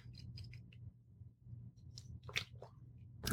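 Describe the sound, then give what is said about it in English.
Someone munching on crackers to clear the palate during a cheese tasting, a series of short, dry crunchy bites and crackles in an uneven rhythm, fairly quiet against a low steady hum, with one sharper crunch at the end. “I'm going to go ahead and try it with some crackers.”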